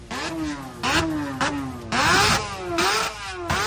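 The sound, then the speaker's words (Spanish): Motorcycle engines rev repeatedly at a winter motorcycle rally in Valladolid, Spain, in loud, rising and falling bursts. The throttles blip about every half second, with no voices. “la rutina ya vuelve a imponerse, pero cuando ocurre eso en Valladolid, en nuestra provincia, tenemos ruidos y es que los motores despiertan a nuestra ciudad y a nuestra provincia.”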